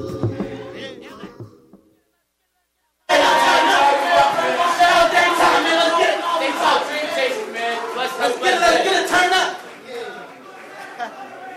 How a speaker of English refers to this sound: All right, nice little bonus there from the Daytop Dream Chasers. Nice round of applause for them as well. Very nice. Very entertaining.